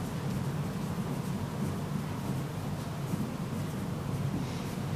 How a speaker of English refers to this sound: General constructive critiques. if you have a hard time reading my handwriting, I can't do anything about it.